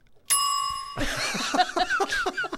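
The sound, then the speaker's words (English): A single bright, clear bell ding rings out loudly and sustains for about a second before cutting off, giving way to a busy jumble of other sounds. “I just felt like a bell.”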